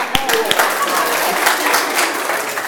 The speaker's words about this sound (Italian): È bravo. L'applauso al bambino.